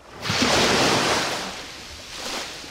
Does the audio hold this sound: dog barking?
no